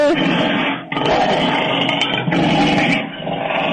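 A loud lion roar with growling, dense and continuous across several seconds with brief dips between bursts, like a big cat snarling and roaring ferociously.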